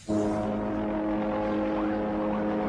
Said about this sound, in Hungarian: Rendőrségi helikopterek a levegőben, kutyás rendőrök az utcán, mesterlövészek a tetőn.